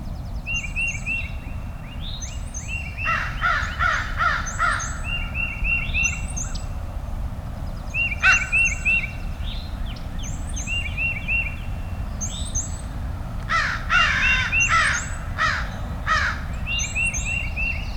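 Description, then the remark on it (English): Four crows about 200 yards away across a field give harsh, guttural calls, their rough caws repeating in irregular bursts across the open field, over a steady low background rumble. “the guttural calls of the crow. Four crows about 200 yards away across the field.”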